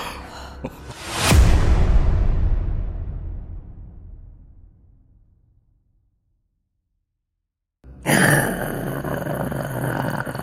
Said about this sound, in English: This deep, low growl, much cooler than I did right there. Coming from one of the buildings.